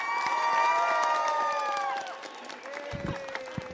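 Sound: enthusiastic applause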